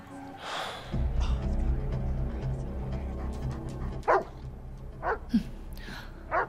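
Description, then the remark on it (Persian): A dog named Rex barks several times in short, separate bursts near the end, set against a steady low rumbling background with no voices. “اون سگ مال کیه؟”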